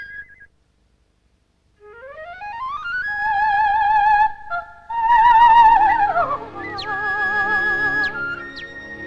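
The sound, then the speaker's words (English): Bright, whistled cardinal song of rising and falling slurred notes with a wavering trill, sounding stylized, as if whistled or played on an instrument; fairly loud and steady, with no talking. “Cardinal bird joins in.”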